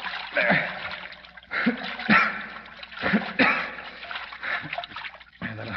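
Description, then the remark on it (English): Water splashes and sloshes continuously, with irregular bursts of churning as something thrashes in it, swelling and easing over several seconds, as someone in the water keeps another person's head above the surface. “I'll keep his head up above water.”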